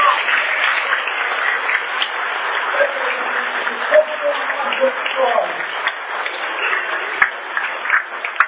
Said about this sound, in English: A big round of applause.